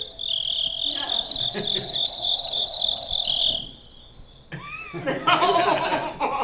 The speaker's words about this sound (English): The crickets are going crazy. Let me try to shut them up.